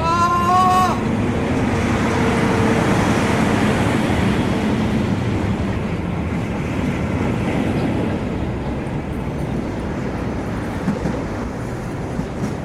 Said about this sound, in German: Ja, Mann, scheiße, da hinten kommen Waggons angerollt.